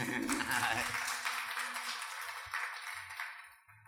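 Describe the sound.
An audience applauds with a dense, steady burst of clapping that holds for a few seconds, then thins and fades at the end. Faint low voices murmur underneath.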